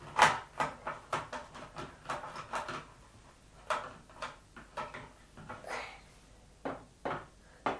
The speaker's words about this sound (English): I will keep the door shut for you. I'm closing it. Done.